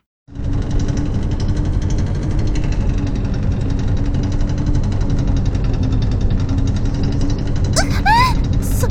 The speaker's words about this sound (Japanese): 水車がまた動き出してる。